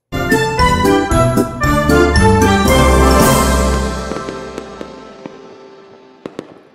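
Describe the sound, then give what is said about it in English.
A bright musical sting with bell-like tones, the theme song of the show Near Disney, swells and fades, then a few sharp firework pops and crackles burst out near the end, loud, without any talking. “And the fireworks.”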